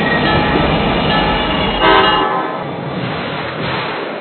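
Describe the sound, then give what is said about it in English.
Southbound passenger train number P607 from Mangonia Park arrives at Lake Worth station, its heavy low roar and squealing tones filling the scene, with a brief horn-like blast partway through before the rumble eases and thins out. “Southbound train number P607 from Mangonia Park is now arriving.”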